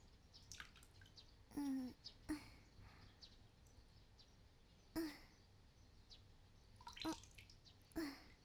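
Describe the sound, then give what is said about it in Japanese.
Water is poured over feet in several short, splashy pours, with quiet gaps of trickling and dripping between them. The sound stays soft throughout and no one speaks. “目を閉じたまま、足にかけられる水音を聞いていると落ち着いてきますよ。”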